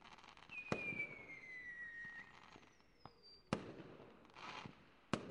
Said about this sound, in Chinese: 哎，要不要对烟花许个愿？